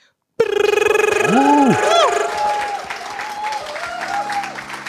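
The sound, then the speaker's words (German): A Swiss audience applauds itself, bursting into applause at once: a steady wash of clapping mixed with rising and falling whoops and cheers that fade after a couple of seconds, while the clapping continues more softly. “Das ist sehr ein bescheidener schweizerischer Applaus.”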